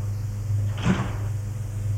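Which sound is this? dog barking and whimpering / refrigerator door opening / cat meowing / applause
refrigerator door opening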